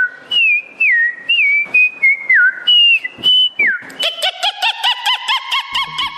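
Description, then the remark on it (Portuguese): A female researcher who studies native Cerrado plants whistles a string of sliding, birdlike notes, then switches to a rapid run of nasal, honking calls, imitating birds. Fairly loud, with no talking. “Uma pesquisadora da Embrapa, que estuda plantas nativas do Cerrado, de tanto observar os pássaros, aprendeu a imitá-los.”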